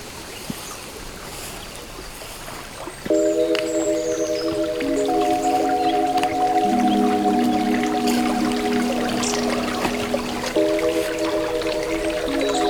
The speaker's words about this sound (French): Le clapotis de l'eau vous invite à une pause.